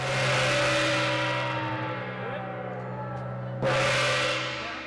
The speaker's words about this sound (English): Okay, that gong means that we have already packaged 7,000 meals. We are way ahead of schedule at this point.